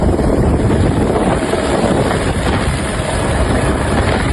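Loud, continuous helicopter rotor roar with a dense, wind-like rush that holds steady throughout, with no voices; a helicopter crew over the coastal region of São Luís warning bathers out of the water and driving animals back toward the sea.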